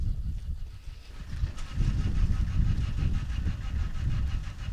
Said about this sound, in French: Le camion de la Ligue de l'enseignement est démarré